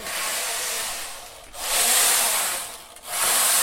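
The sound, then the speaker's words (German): A knitting machine carriage slides left to right and back in repeated broad swooshing passes, knitting a scarf about 60 cm wide, picked up by a contact microphone. Each pass is a loud, hissing, rubbing sweep with brief dips between strokes, rising and falling like waves or breathing. “Ich finde, es hat bei der Strickmaschine durch dieses Hin von links nach rechts, von rechts nach links, erinnert es mich oft an ein Meeresrauschen oder halt an Atemzüge.”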